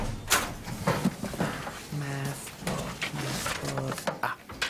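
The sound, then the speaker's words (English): A metal locker door is opened: a couple of sharp clanks and rattles, followed by two drawn-out, low-pitched creaking squeals from the hinge. “This fell out when you opened your locker.”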